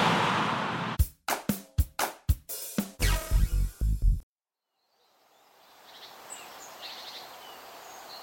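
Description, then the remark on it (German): A burst of rapid, sharp knocking thuds gives way to a brief silence, then a quiet forest ambience settles in, with faint bird chirps twittering over a soft background hush. “Mann, ist es schön hier im Wald.”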